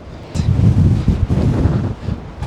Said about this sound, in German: Man hört den Wind also schon. Ja. Wir haben uns natürlich extremes Wetter ausgesucht für unser Experiment. Sahara-Sandsturm sozusagen.